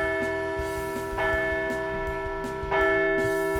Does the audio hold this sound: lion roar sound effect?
no